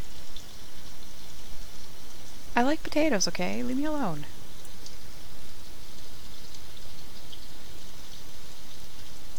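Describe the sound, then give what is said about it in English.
Steady rain pours down throughout, a dense, even hiss of drops. Briefly in the middle, a voice speaks over it. “Rain always seems to be messing with us, huh?”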